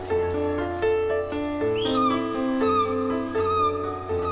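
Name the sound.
seagulls calling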